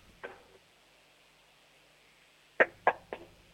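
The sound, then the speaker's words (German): A faint single tap, a pause, then three loud, sharp knocks on a door in quick succession, made by an 8-year-old girl in Bernberg, Lower Austria, with no voices. “Du, dann hätte ich jetzt gesagt, du laufst zur nächsten Tür und klopfst mal ordentlich an die Tür, sodass es richtig schön bumpert.”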